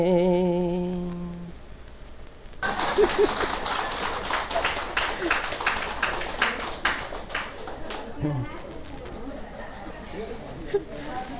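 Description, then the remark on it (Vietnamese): A held sung note ends, then the assembled audience breaks into loud, dense applause that rolls on for several seconds before thinning into scattered claps, with some voices mixed in. “Bây giờ thấy đại chúng vỗ tay hay quá cho nên thầy hát.”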